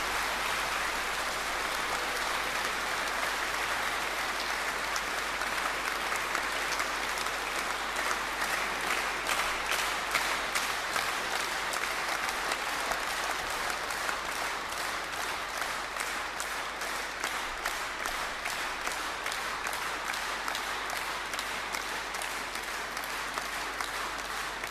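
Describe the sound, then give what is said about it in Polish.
Sustained applause from pilgrims thanking the local parish priest and parishioners, a dense steady patter of many hands clapping at even loudness for the whole stretch, with no voices rising above it. “Wy w tym momencie wielkie brawa, a ja wręczę nasz pamiątkowy kubeczek.”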